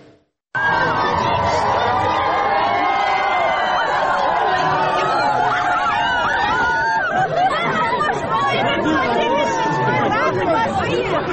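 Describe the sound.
A large crowd in the city of Derbent, into which Vladimir Putin unexpectedly walked, chatters loudly and continuously, a dense babble of many voices with occasional higher shouts and cheers rising above it, starting abruptly after a brief silence.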